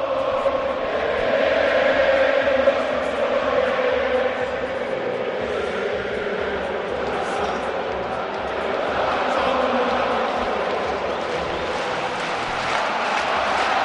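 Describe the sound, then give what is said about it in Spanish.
A huge stadium crowd in Madrid sings the Atlético de Madrid football anthem a cappella, thousands of voices merging into one loud, sustained roar of melody with no instruments, continuing steadily throughout. “Se saludan y los jugadores y se canta el himno en Madrid, Germán.”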